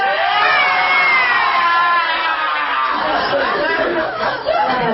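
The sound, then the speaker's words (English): A large crowd screams and cheers loudly all at once, a dense wall of voices sustained for several seconds before breaking into scattered shouts and laughter. “Can we get one Super Bowl scream?”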